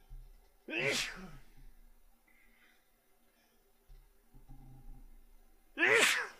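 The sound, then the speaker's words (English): Two loud sneezes from a person driving a car, one near the start and another about five seconds later, each a sharp burst of breathy noise, with a low engine rumble and faint murmuring in between. “And now I have to sneeze.”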